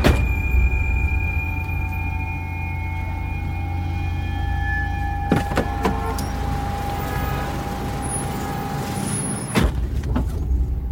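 Car doors open and shut with a few sharp clunks over the steady hum of an idling car as one person gets out and another gets in, one pair close together midway and another thud near the end.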